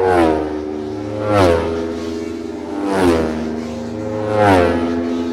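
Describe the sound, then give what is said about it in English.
Racing motorcycles in a race scream past one after another across a railway bridge, three high-revving engine passes, each swelling loud then dropping sharply in pitch as it goes by, with a steady engine drone between them and no talking. “Four bikes have already gone across the railway bridge.”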